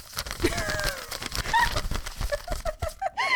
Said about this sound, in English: Is the owl okay after that? It sounded like That was me taking the letter and opening it.